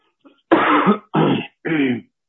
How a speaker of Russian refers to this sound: Прошу прощения за кашель, надеюсь, что это не очень мешает.